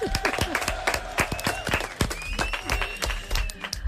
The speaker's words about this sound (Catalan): Molt bé a tots, un aplaudiment.